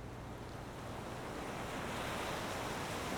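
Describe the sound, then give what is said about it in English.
Steady ocean surf washes against the shore, a dense continuous rush that swells slightly louder toward the end, with a faint undertone of wind and no voices. “She abruptly remembered a bad day by the sea.”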